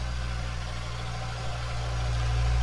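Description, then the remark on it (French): A tractor engine runs steadily at Christmastime, a deep continuous rumble with a droning hum that swells slightly toward the end; no one speaks. “Un tracteur.”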